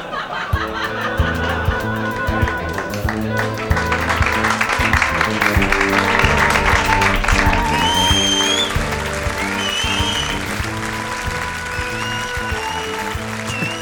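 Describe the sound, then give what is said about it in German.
A theater audience applauds and cheers at the end of a stage play in a dense, continuous roar that stays loud for about fourteen seconds, with a few shrill whistles rising above the clapping midway through. “Das Publikum ist ja völlig aus dem Häuschen, Leute.”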